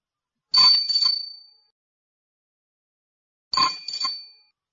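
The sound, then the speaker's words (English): A bicycle bell rings twice, each time a quick bright double ding-ding with a shimmering metallic tail. A pause of about three seconds separates the rings, and no voices are heard. “Is this a car? No, it's a bike.”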